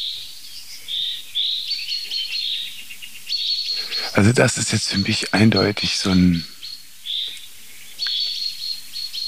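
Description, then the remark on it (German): Repeated sharp, scolding alarm calls from a tit and a chaffinch chatter steadily in the background, with a man speaking briefly over them midway through. “Jetzt kommt noch eine Meise dazu, die meckert. Ja, die anderen Vögel reagieren nämlich auf Buchfink, weil die wissen, dass der sehr verlässlich ist.”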